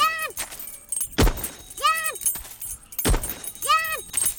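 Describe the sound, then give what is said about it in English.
A bright, chiming video game key jingle from a key in a courtyard area of the game, repeating three times at a steady pace, each a quick bending tone with shimmering harmonics, separated by short noisy bursts of game sound. “You hear that key right there?”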